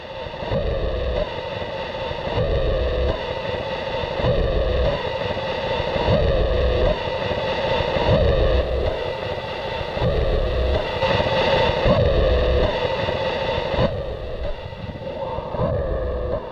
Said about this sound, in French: Voilà, donc ça peut être, voilà, c'est entre le drone et l'arch noise, ouais, quelque chose qui est très saturé, qui racle, qui est très dérangeant.